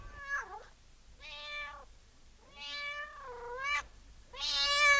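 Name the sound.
cat meowing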